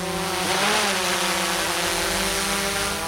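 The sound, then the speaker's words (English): A steady, loud mechanical whine with a faint upward sweep in pitch early on, as the motors of an aerial surveillance drone spin up and it lifts into the air, guided overhead by an operator with a controller. No one speaks. “An aerial surveillance drone lifts into the air.”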